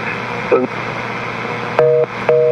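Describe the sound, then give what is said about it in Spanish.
A telephone busy signal sounds after a call drops mid-conversation: two short, steady beeps in an even on-off rhythm, loud, over a constant hiss of line noise. “Se colgó en el momento que estábamos hablando”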